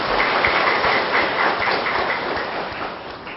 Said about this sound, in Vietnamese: Xin tạo tràng cho một tràng pháo tay.